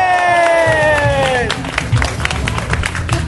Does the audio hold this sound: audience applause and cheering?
yes